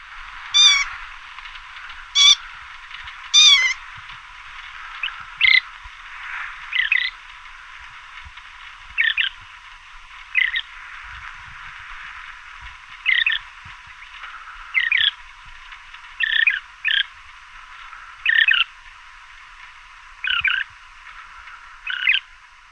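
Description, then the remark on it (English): Loggerhead shrike, recorded in southern Arizona, giving a series of harsh, rasping scream-like calls, each a short burst, repeated at irregular intervals, opening with a few sharper, higher squeals. “Here's the blood-curdling scream and some other calls of the loggerhead shrike.”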